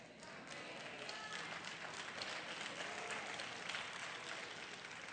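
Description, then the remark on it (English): Thin, scattered hand clapping patters steadily for about five seconds, a soft, even wash of claps that never builds to a roar and fades only slightly at the end. “That was a pretty weak hand clap.”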